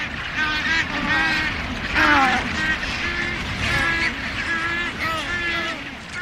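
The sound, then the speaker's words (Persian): A dense albatross colony on Steeple Jason in the South Atlantic, one of the world's largest, where about 500,000 birds come yearly to raise chicks, calls continuously, layered honking and braying cries overlapping from many birds at once, loud with a constant background chorus. “استیپل جیسون یکی از بزرگترین کلونی های آلباتراس ها در جهان است.”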